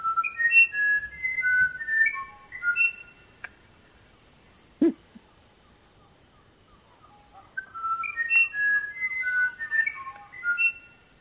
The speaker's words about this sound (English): Let's listen to the music, musician wren. Musician wren is the name of the bird. I'm sorry, musician wren. Let's hear that.